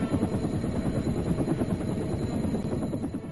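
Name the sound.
military helicopter flying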